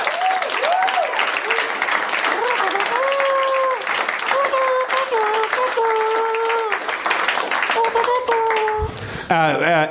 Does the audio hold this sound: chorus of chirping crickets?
no